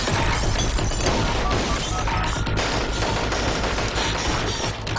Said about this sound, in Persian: سانتوس هستم، از واحد 6-4 اینجا تیراندازی شده. تکرار میکنم، تیراندازی شدید. درخواست نیروی کمکی دارم.